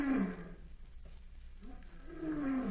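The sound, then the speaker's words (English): A lion walking back and forth in its cage at a zoo gives two deep, rumbling roars, one at the start and a longer one near the end, with a quieter throaty gap between them. No one speaks. “Ah, here's the lion walking back and forth in his cage.”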